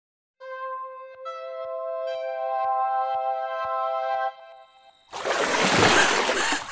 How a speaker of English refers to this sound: I splash and swim with no ripples. Lake remains smooth as glass.